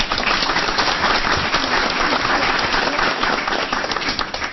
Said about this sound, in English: And a round of applause.